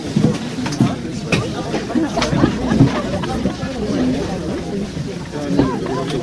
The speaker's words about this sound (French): Un matin de février, la foule des skieurs prêts à grimper dans le téléphérique de l'Aiguille du Midi. C'est le point de départ pour s'approcher du Mont Blanc ou dévaler la mythique Vallée Blanche.